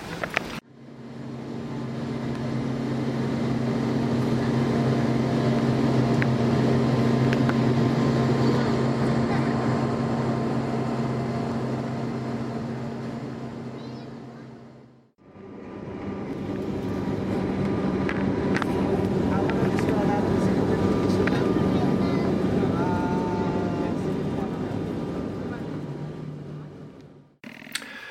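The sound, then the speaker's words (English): A steady, loud droning engine roar with strong low humming tones from a small turboprop (jet prop) plane flying to Turku, cutting briefly midway before resuming; faint voices may sit under the noise. “You probably heard the noise these planes make. It's a little jet prop plane.”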